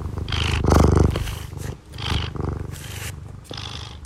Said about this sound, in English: He purrs when he's happy, but he also purrs when he's hungry and when he thinks he's about to get food. So I have a lot of questions about what's actually going on in his little body when he purrs. But I mean, listen to these good vibrations.